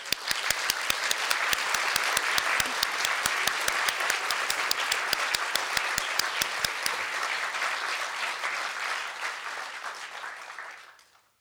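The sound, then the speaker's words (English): An audience applauds steadily and loudly for about ten seconds as a talk finishes, with a few sharp, regular claps standing out in the first half, before the clapping thins and fades away. “So will you raise your hand and let's applaud.”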